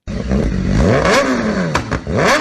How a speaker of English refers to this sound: The sound of a revving motorbike might annoy some motorists, but it's music to the ears of riders. I do recommend adding a modification to your exhaust, so an aftermarket slip-on or full system to make it louder.